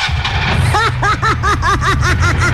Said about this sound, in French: Je viens de comprendre, ce sont les moteurs qui sonnent comme ça ici.